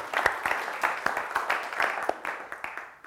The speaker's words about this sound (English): So, yeah. Round of applause. It's exciting.